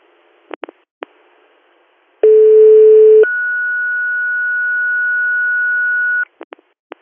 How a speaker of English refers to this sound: To AMR base, this is your tones for the request to intercept at exit 46 on I-86, 0359.